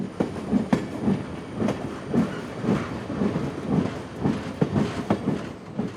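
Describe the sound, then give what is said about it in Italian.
A train rolls steadily along the rails with a rhythmic clickety-clack of wheels over track joints, a continuous rumbling ride, with no voices. “Ma la parte spettacolare del piano sarebbe stato il sequestro di un treno militare per arrivare a Trento a sorpresa e gettare nel panico il nemico.”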